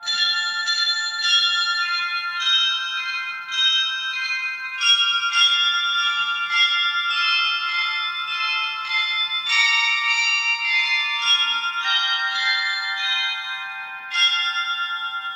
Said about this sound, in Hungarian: A harangjátékot Fekete Károly, a tiszántúli református egyházkerület püspöke áldotta és szentelte meg.